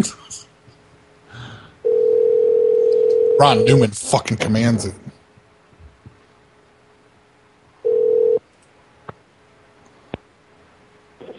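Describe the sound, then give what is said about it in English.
An emergency telephone line rings out unanswered: two long, steady electronic ring tones separated by a pause, with a person speaking loudly in the gap between them. “For being an emergency phone, they sure aren't in a hurry to pick it up.”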